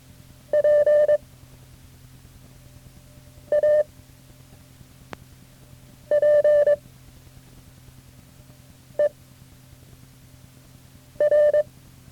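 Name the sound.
morse code tones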